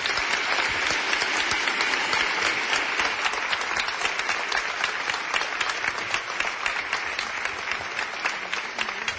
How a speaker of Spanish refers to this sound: y hacia este maravilloso equipo que nos acompaña y que pido un aplauso para todos ellos.